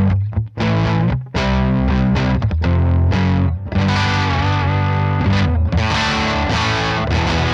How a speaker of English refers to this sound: It's almost like a mid-crunch overdrive, you know?